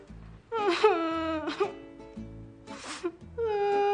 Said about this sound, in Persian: چرا باز گریه میکنی؟ آخه 500 تومن کمه.